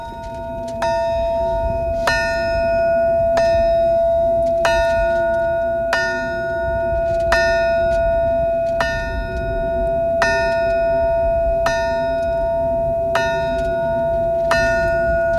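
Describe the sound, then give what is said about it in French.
The Chernobyl memorial alarm bell (tocsin) at a monument with flowers is struck about a dozen times at a slow, steady pace, each clear metallic toll ringing on into the next over a low outdoor rumble. “C'est le toxin de Tchernobyl.”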